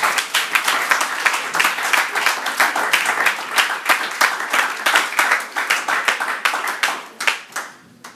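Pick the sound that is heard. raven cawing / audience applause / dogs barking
audience applause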